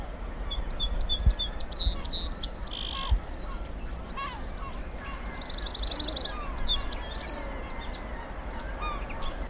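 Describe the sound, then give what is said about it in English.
A song sparrow sings in the background of a busy outdoor chorus, its bright trills and buzzy notes carrying over a low, steady rumble of background noise and other calling birds. “But is this also the song sparrow that we actually hear in the background here? Yes, it is.”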